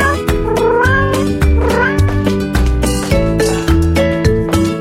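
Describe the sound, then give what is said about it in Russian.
A cat meows in a few drawn-out, rising and falling calls, fairly loud, over a steady backdrop of rhythmic music with regular beats. “Госпожа кошка, уделите мне минутку внимания, будьте так любезны.”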